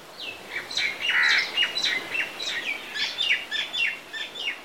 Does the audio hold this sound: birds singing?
yes